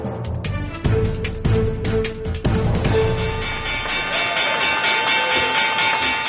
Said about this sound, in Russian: Звук колокольчика, извещающего о закрытии торгов на Нью-Йоркской бирже в понедельник, на практике определил то, что экономисты назвали 11 сентября в экономике.